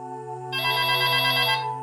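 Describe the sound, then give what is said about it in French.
A telephone rings with a bright, sustained electronic tone that swells louder and richer halfway through, then eases back, heard clearly on its own with no talking. “À 20h02, pourtant, le téléphone sonne.”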